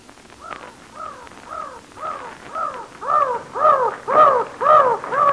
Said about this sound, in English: But I wish those seagulls wouldn't fly so close to me. Them ain't seagulls, miss. Them's mountain crows. Well, they're awful mad. Maybe they think we want to steal their eggs.